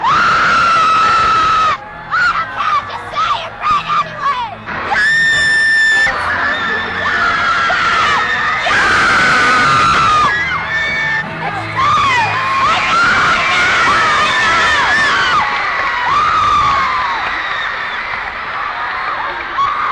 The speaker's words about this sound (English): They're screaming more or less this time than last time? A lot less. A lot less, man. They used to break the microphone.